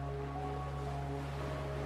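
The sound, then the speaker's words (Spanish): Steady wash of sea waves breaking near the shore of a large, soft sandy beach, continuous and moderately loud, with a low sustained hum running underneath and no voices. “Observando las olas del mar que rompen cerca de la orilla, llegando hasta casi tocar tus pies descalzos.”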